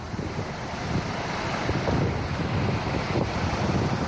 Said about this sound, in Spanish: Así rugía el viento en una de las más de 60 intervenciones que han tenido que realizar los servicios de emergencia.